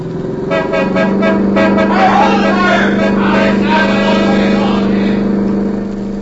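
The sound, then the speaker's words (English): A car engine roars steadily and loud for several seconds as the vehicle tries to drive on through past a stopping car ahead, with a sustained horn-like drone and rushing road noise throughout. “The stopping car is ahead. I'll try to drive on through.”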